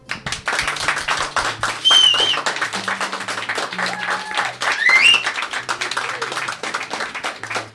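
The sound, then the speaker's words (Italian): An audience gives an applause of encouragement for the day's 'pollaisti'. It applauds steadily for several seconds, a dense wash of overlapping claps with a few brief whistles rising above it and some low murmuring underneath. “E vorrei farci un grande, tanto per finire sul cliché televisivo, applauso di incoraggiamento per i pollaisti di oggi.”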